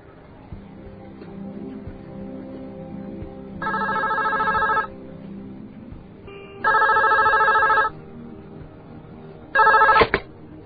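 A telephone rings three times in evenly spaced bursts, each a loud, buzzy electronic trill lasting about a second, over a faint background murmur with no one speaking; a call to guests at a hotel on the second day of a food fair.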